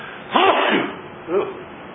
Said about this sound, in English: Excuse me. A little bit of a sneeze there at the end of the show.